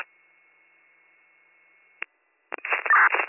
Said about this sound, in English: We got pager tones up here, but no audible message.